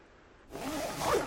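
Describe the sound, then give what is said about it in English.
A zipper on a backpack is pulled open inside a tent in one steady, rasping stroke that grows louder toward the end, with no talking. “Inside his tent, Luke unzips his pack and locates a water bottle and a bag full of snack bars.”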